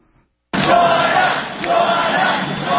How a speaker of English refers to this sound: So the crowd has been chanting, "Join us."